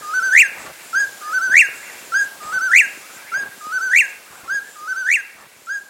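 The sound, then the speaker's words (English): A California quail calls repeatedly, short rising whistled notes in a steady rhythm, clear, with no voices present, used in a Hollywood film scene set in the forested mountains of West Virginia. “A desert-loving California quail crows in the forested mountains of West Virginia as frontiersmen watch warily for Indians.”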